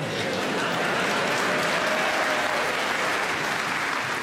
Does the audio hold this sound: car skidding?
no